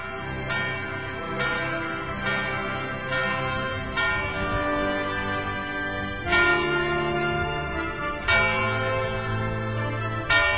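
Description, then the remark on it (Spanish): A church bell rings out marking the start of a new hour, in a series of strikes about a second or two apart, each tone lingering and overlapping the next, clear with no voices. “La campana nos marca el comienzo de una nueva hora.”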